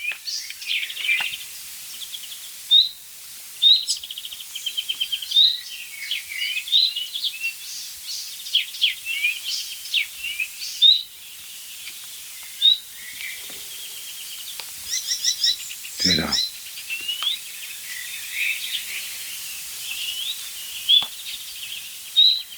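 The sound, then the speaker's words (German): A nightingale sings continuously in varied, rapid phrases of whistles, trills and chirps, clear against a quiet background, with one louder, sharper burst partway through. “Nein, das ist die Nachtigall.”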